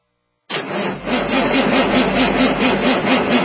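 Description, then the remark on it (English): After a moment of silence, a diesel engine abruptly starts and settles into a loud, steady running rumble with a rhythmic, slightly rough throb, with no voices. “It's the cholesterol of your diesel engine that clogs the arteries of your injectors, causing hard starts, bucking and chugging, and potential injector failure.”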